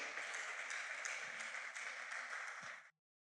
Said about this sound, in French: nous allons l'accueillir aussi par des acclamations.